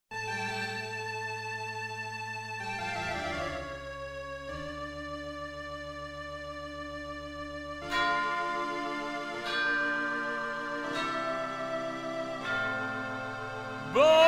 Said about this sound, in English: Bang, bang, bang, bang, hark, Esmeralda, the bells I peal.